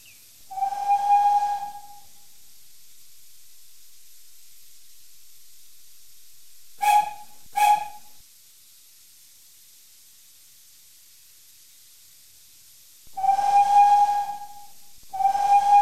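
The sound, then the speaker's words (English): A steam train whistle blows at a station as the train is ready to leave: a long shrill blast, then two quick short toots, then another long blast and a final one cut off at the end, over a faint background hiss. “Of the train, which means it's ready to leave the station.”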